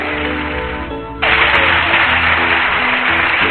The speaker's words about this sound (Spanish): ¡Quieren un aplauso fuerte!